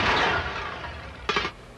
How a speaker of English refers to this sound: I also have a sound effects library. How about a smash? How about a bigger smash?